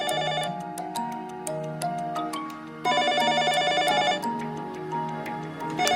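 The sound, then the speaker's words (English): A telephone rings steadily for several seconds as a call is placed, its bright, bell-like tones repeating loud with no voices over it. “John eventually works up the courage to call Jennifer.”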